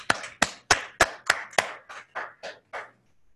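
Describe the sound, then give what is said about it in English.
About ten sharp, steady claps in an even rhythm, loud at first and then gradually softer toward the end, with no voices, as people at an OA meeting stand and applaud service. “Will all people doing service for OA at any level please stand and applaud service?”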